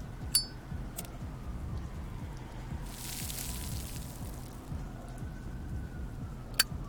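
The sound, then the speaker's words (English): Steady rain patters in a soft, continuous wash. A few sharp clicks land near the start and end, and a brighter hiss swells briefly in the middle. Nobody speaks. “It's been kind of hard to get a match going with all this rain.”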